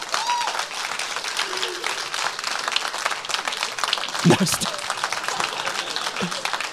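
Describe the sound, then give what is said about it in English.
Steady, dense applause from a church audience fills the whole stretch, many hands clapping at once in a bright, continuous wash, as a speaker who has brought his wife up in front briefly talks over it. “And so we just wanted to say, y'all can clap, that's fine.”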